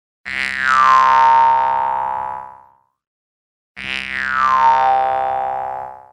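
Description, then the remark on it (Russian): Two plucked jaw harp notes, each struck, then opened, caught and directed, a bright twang that rings for about two seconds with a sweeping, wah-like tone shift as the resonance is shaped, separated by a brief silence. “Так вот, сейчас я первый сделаю удар, открою звук, схвачу и направлю.”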